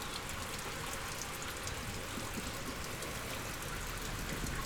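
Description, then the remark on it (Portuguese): Steady, continuous rush of river water from a wide, curved area pouring down into an underground culvert, a dense hiss that never lets up, even in loudness, with no voices. “Ela drena essa água para dentro dessa galeria. Ali embaixo, você está vendo o choro do rio. Você está ouvindo.”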